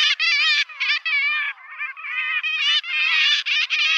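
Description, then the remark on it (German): A gull calls loudly and repeatedly, a string of harsh, nasal, mid-to-high pitched cries run together with only brief pauses between them, with no voices or other sounds. “Es ist natürlich eine Möwe, so viel sei schon mal verraten.”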